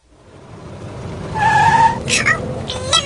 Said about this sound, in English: Oh, blimey, a woodlouse trying to park a motor car. Oh, come on, love. You can get a large horse and cart in there. Come on.